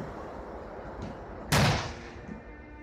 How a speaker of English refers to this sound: Public transit was shut down, with the exception of the London Underground, but trains in the Underground couldn't even see each other approaching, so they had to use these loud, explosive warning devices called detonators as they rounded the bend.